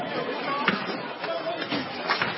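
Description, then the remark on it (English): A riot crowd roars in a dense, continuous din, with brief high screams in the distance and several sharp, scattered crashes of store windows being smashed and glass breaking as people loot, cutting through the steady chatter. “Right now you're in the middle of the riot. You hear it? Screams in the distance. Store windows being smashed.”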